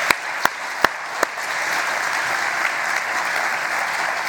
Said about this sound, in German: Kann man es da klatschen? Soll man klatschen? Soll man es nicht? Also, ihr könnt ruhig mal klatschen für die Musiker. Ich finde, die haben das super gemacht. Jawohl.